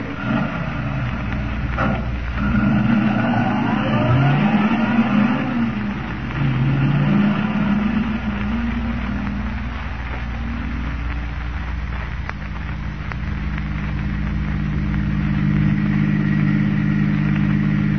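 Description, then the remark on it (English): A car engine revs up and rumbles along steadily, its pitch rising and falling as it accelerates and drives on, loud with no voices. “The Phantom automobile is going to put in an appearance tonight.”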